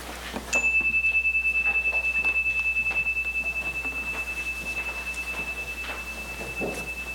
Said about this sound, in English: We'll have a minute or so of silent meditation started by the chime and ended by the chime.